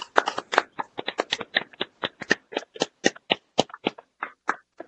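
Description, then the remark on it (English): A small group at a meeting claps for about five seconds, giving sharp, irregular claps at a moderate level rather than a dense roar of applause. No one speaks over it. “Can we have a group clap? Can everybody go off and clap for this?”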